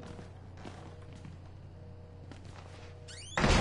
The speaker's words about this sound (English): Stop slamming doors, bro. Like, what are you doing? You're literally saying... Every time you slam a door, you're basically saying... This.